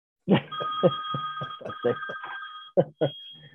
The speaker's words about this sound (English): You could just mute the phone for the show.